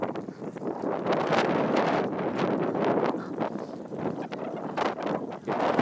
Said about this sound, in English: And lots of wind.